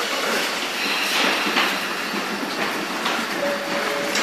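A train rolls steadily along the rails, a continuous loud rumble with faint rhythmic clatter and a brief high squeal near the end. No one speaks.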